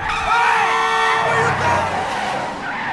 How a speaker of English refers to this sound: A truck heads straight toward the car as it drives in the wrong lane. Anne-Marie hits the brakes and pulls back into the right lane.